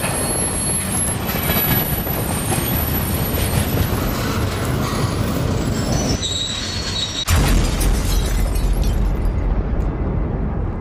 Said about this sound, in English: While they were crossing the railroad tracks, the car got stuck and suddenly they saw a train coming in the distance. The mother started freaking out and was still struggling to get off the tracks when the train fell straight into her car.